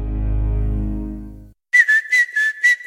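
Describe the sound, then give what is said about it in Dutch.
After a low, steady humming tone cuts off, someone whistles a short, cheerful tune of about six quick, clear notes, fairly loud with no talking. “Niet alleen de vogels fluiten in april, ook Toyota-rijders.”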